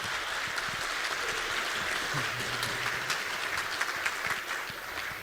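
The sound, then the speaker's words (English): A conference audience applauds steadily for about five seconds to welcome a speaker presenting on untethering iOS, dense overlapping claps forming a bright, continuous wash of sound with a few sharper individual claps standing out, fading slightly at the end. “Please give him a warm welcoming applause.”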